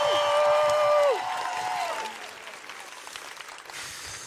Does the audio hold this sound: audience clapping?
yes